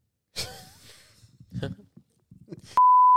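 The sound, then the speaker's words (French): A few seconds of breathy, murmured speech end abruptly in a loud, steady electronic beep, a single sustained censor tone bleeping out the name of a church, cutting in sharply and holding until the end. “On va biper le nom de l'église, mais c'est ça, cette église-là.”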